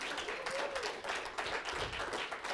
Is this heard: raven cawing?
no